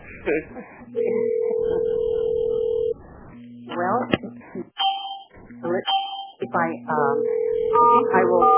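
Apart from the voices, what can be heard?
telephone ringing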